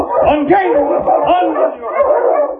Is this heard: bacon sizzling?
no